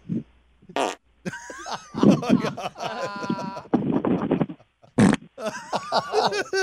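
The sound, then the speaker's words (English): A rapid string of loud, buzzy fart sound effects played by a caller over a phone line, several bursts of varying pitch and length played back to back, with a brief exclamation from a voice between them. “He just played fart drops until he wouldn't hang up.”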